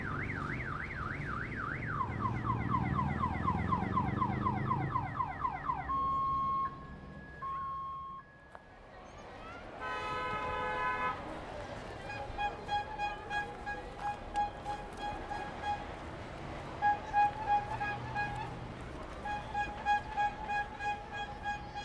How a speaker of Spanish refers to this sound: Ahí se escuchan las bocinas de los heladeros, que por el calor del mediodía, porque estamos bordeando las 2 a 3 de la tarde, hacía un sonido intenso de las bocinas de los heladeros que se puede percibir claramente en este audio.